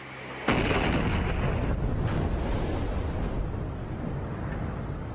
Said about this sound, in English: And as I was finishing the Lord's Prayer, there was another extreme explosion.